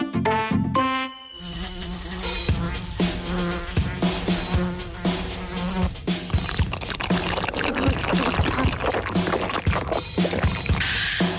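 housefly buzzing

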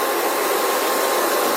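vacuum cleaner running

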